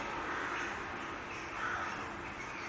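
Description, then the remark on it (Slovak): Crows caw outside a window, recorded on a dictaphone, a couple of harsh, raspy calls rising over a steady background hum, fairly quiet, with no one talking. “Mám škoda, že sú tam vrany.”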